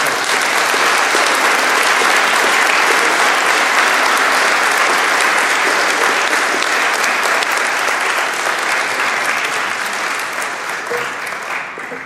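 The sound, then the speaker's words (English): An audience at a service claps in appreciation of a speaker for about twelve seconds, a dense, even wash of many hands that stays loud throughout and only begins to thin slightly at the very end. “We don't normally applaud our speakers, but we show our appreciation.”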